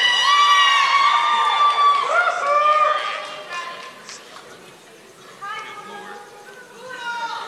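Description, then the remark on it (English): A loud crowd cheers and yells, many high voices overlapping. The shouting is strongest at first, dips briefly in the middle, then swells again near the end. “It's the time where everyone yells at us.”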